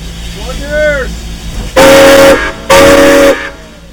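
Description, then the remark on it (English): The whistle of the White Pass and Yukon Route Railroad's number 73 steam locomotive in Skagway sounds two loud, long blasts, each about half a second, separated by a short pause, with a faint brief chirp beforehand, as the engine is pulled onto the tracks for its Fraser Pass excursion. “Jim Hamilton is pulling the number 73 steam engine onto the tracks for its Fraser Pass excursion.”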